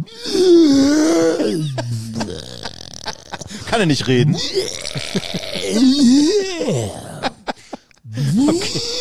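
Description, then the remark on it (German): A voice imitates a clumsy, one-eyed giant, the Colossus, lumbering about with a hammer, making deep, guttural grunts and belch-like groans, loud and drawn out in several bursts, with brief spoken remarks in between. “So ein Riese, so ein Einäugiger, so ein plumper ein Tumba-Typ, der so riesig mit so einem Hammer durch die Gegend. Was macht er für Geräusche?”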